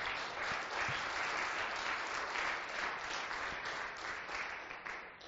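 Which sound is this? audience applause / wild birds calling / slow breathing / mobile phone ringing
audience applause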